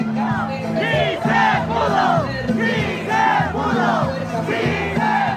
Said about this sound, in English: People flooded into that square. They started, people were circling, honking horns, people were waving flags, people were chanting.